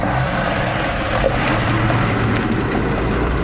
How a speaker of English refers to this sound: Here in Nueva Loja, in eastern Ecuador, close to the Colombian border, trucks hit the gravel roads 24 hours a day to speed up construction of an OCP pumping station.